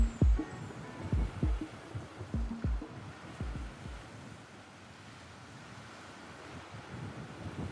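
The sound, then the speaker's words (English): Ocean surf washes steadily onto a beach in LA in a constant broad hiss, with several low, muffled thumps near the start and wind buffeting the microphone. No one speaks. “while walking along the beach and, unfortunately, picking up trash.”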